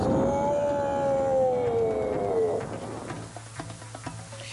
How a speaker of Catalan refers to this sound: Ara, prepara't. Què has de fer? Doncs quan et digui tres, fes un bram i un bot. Està bé. A la una, a les dues i a les tres.